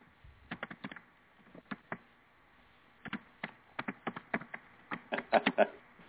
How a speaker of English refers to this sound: Yeah, he was on, and I think he's typing, or someone is typing.